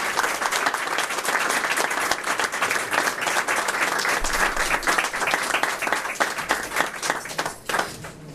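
Sustained applause from a large crowd fills the whole stretch, dense overlapping claps at steady loudness with no speech over it, given in thanks to the builders, designers and donors at the blessing of a new building.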